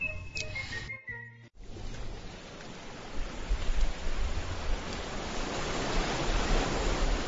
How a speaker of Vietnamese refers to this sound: Hãy đặt lên tai chiếc vỏ sò mang về từ biển, lắng tai nghe thật khẽ, cảm nhận thật dịu dàng những thanh âm từ biển. Bạn có thấy không? Sóng đang thủ thỉ lời yêu thương